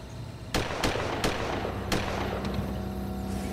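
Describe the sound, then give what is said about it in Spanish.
Four sharp gunshots ring out at irregular intervals, followed by a fainter fifth crack, over a steady low background rumble, each a quick percussive bang with a short tail; the shots are heard by someone waiting on a side street. “Holliman dijo que estaba esperando en una calle secundaria que Kelly volviera cuando oyó disparos.”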